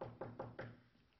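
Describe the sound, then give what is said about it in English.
Four quick, evenly spaced, solid knocks on a door, followed by a brief fading silence, as a Bible salesman knocks on the first door of his rounds. No voices are heard. “He said, he went out, knocked on the first door.”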